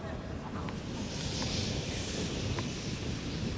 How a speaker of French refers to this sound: On est sur la diagonale gauche et justement une grosse bourrasque là, à l'instant même. Il arrête son geste, il laisse passer le vent.